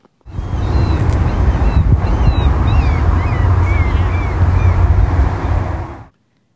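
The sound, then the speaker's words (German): Several gulls cry out in short, thin, high calls, scattered across a few seconds above a loud, steady low rumble like wind, water and a boat engine, in a city in Alaska. “Möwen. Ja, gut, ich gebe zu, das könnte jetzt auch wirklich in jeder Stadt oder Hafenstadt sein.”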